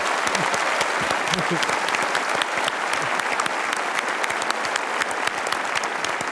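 A crowd claps steadily and densely for several seconds, a loud, continuous wash of many hands with a few whoops and cheers rising through it.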